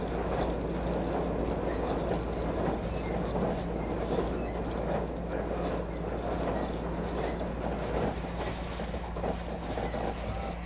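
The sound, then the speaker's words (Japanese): A Yakumo limited express train rolls along the rails shortly before arriving at Yonago, Japan, heard as a steady rumble with a low hum and soft clattering throughout, continuous and unbroken with no voices. “特急やくも号をご利用くださいましてありがとうございました。”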